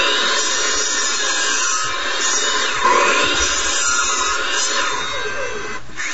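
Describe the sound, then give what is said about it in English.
A miter saw runs loud, its steady motor whine joined by a rising, grinding rasp as the blade bites through material, with no talking. “Alright, so let's look at some power tools. A miter saw.”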